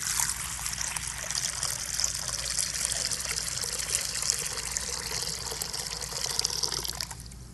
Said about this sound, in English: And then he took a pitcher of water. And he began to fill a basin.